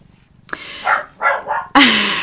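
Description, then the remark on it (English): A puppy named Ranger gives a run of short, high-pitched yips and barks, four or five quick bursts with brief gaps, ending in a louder, drawn-out yelp. No one speaks. “you might hear Ranger the puppy as well in the background, send in some puppy love your way.”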